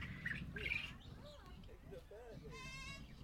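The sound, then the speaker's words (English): A zebra finch in a tree chirping in short bright bursts, then a nasal, buzzy call toward the end, with people talking quietly in the background of an outdoor setting. “I think there's a zebra finch that we just took a picture of in the tree.”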